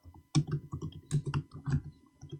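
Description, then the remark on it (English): Quick typing on a laptop keyboard: a steady run of soft, irregular key clicks with brief pauses between bursts, and no voices. “That's just his laptop, man. I love the feel of these keys, though.”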